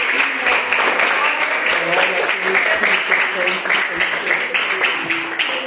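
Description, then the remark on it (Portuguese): A crowd claps steadily for several seconds, a dense, sustained wash of applause with voices mixed in underneath, applause given to exalt the Lord Jesus. “As palmas que exaltem ao Senhor Jesus.”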